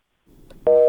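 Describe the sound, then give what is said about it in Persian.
A steady telephone busy tone sounds after a stretch of low line noise, a loud dual-pitched hum holding for about a quarter second before cutting off, after a listener's call to a Radio Azadi call-in program dropped. “خب تلفنی دوست ما قطع شد”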